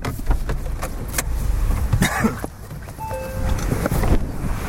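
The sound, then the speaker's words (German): In rainy weather, a car rumbles to a stop at the Schlösslibach stream, followed by clunks and rustling as someone gets out to look into the stream, a brief electronic beep, and keys jangling, with wind noise over the microphone. “Wir sind jetzt beim Schlösslibach angekommen.”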